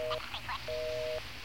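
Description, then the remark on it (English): A telephone busy signal heard when calling the AT&T number: a steady two-note electronic tone sounds in two bursts separated by a short gap, with a high, squeaky voice chattering in between, sped up by fast playback on a tape machine. “I hear a Mickey Mouse voice, and I hear a busy signal.”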